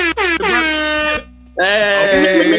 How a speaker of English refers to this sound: Hey! Got the air horns. I'm fired up about the air horns. I need that.